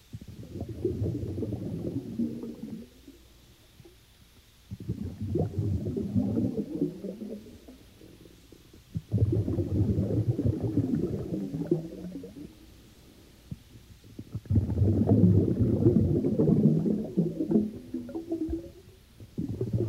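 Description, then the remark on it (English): Deep, muffled water sounds swell and recede in slow surges about every five seconds, like waves rolling in and washing back, rumbling and steady with no voices. “After those lovely sounds of water, you know, it's usually very calming.”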